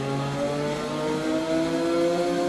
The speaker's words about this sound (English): In this case, literally, as he drives a car down a street, steering around oncoming traffic by leaning hard to his left or right, trying to maintain balance